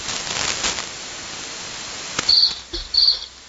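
A cricket chirps twice in short, high-pitched trills, fairly clear, over a faint steady hiss with no one talking.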